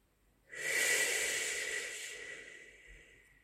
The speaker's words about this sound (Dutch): Wanneer je uitademt, laat dan een krachtig geluid ontsnappen. Laat alle boosheid en frustratie en negativiteit los met deze klank.